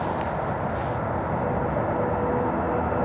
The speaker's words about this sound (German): Aber jetzt hört man aber den Zug ganz laut in dieser Richtung hier. Ja, da.